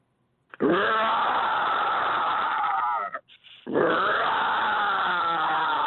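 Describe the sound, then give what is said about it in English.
A person imitates a tiger's growl as Mike the Tiger, with two long, loud, rasping roars separated by a brief pause, with no other talking. “Here comes Mike the Tiger.”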